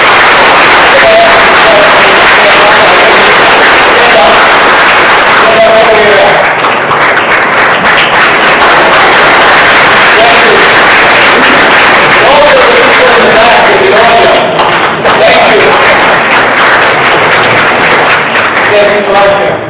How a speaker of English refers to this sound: why don't we just give a round of applause for that.